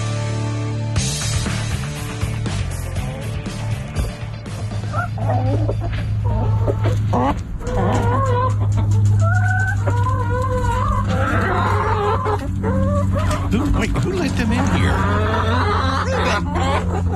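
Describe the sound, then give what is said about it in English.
A flock of chickens clucking and squawking steadily, with a rooster crowing over them, all fairly loud against a constant low hum, no talking. “That's what chickens. You won't be hearing in the city limits of Bossier City.”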